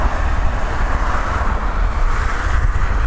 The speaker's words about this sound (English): we're on a pedestrian footbridge above a major A road, watching the cars go by